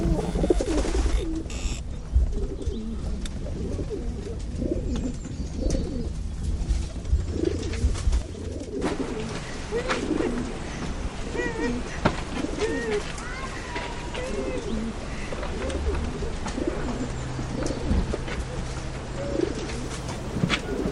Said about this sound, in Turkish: Bir otomobilin kapısını açıp kuşları içine attı. Tekrar eve doğru yöneldi. Kuşlar arabanın koltuğunda.